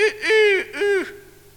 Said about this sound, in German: begann ihre Uhr, sie hatte einen Wecker, plötzlich zu krähen.